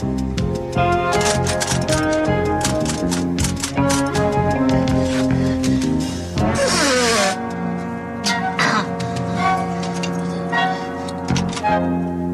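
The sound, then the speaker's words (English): A woman types as she writes, quick, irregular typing clicks rattling along in bursts over a steady bed of tonal music, clear, with a brief rising swirl partway through. “So she's typing away in her her facial expressions while she writes just like totally drive me crazy.”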